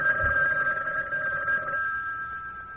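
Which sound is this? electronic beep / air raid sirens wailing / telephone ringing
telephone ringing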